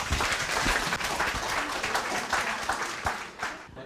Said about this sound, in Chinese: 那我们热烈的掌声欢迎